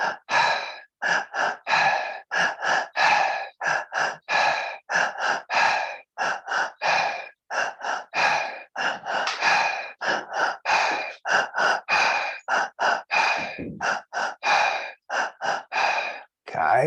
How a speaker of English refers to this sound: So you're breathing into the belly. Just going to do a few, about 10 breaths, just because I don't want you getting too excited. Wanting to stay in the breath for a little bit longer. So breathing into the belly, into the chest, and release.